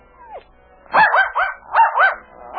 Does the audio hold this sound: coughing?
no